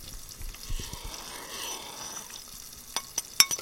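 A utensil scrapes and swirls through a thick batter in a bowl, a steady soft churning with a few sharper clinks against the side toward the end. No one speaks.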